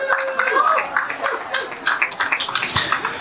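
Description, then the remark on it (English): A muted, half-hearted round of applause for people who came forward to get involved: scattered, uneven claps at a low level, with voices murmuring underneath throughout. “That's a bit of a muted round of applause for people who are...”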